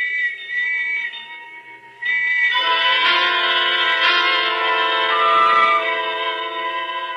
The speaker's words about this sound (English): And the whistles and bells all around.